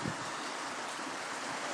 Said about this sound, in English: You can tell, bloody hell. You can tell how windy it is. The wind is actually blowing the rain into the covered area.